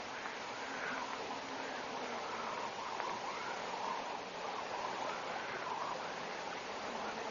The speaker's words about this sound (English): Yes. There's running water. I couldn't say which direction the sound's coming from. Compounded whispering seems to throw sound at you from all directions.